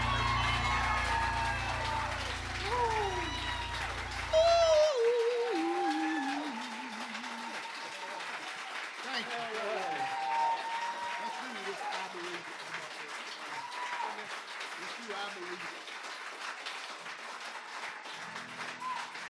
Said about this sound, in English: For that round of applause, we're going to do one more, if I can sing it.